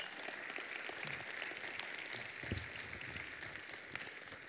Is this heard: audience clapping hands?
yes